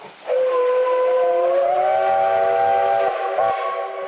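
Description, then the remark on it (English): A train whistle blows in one long, loud, steady chord for several seconds, with a brief break near the end before it sounds again, carrying over a rumbling background. “He'd been seeing a real train.”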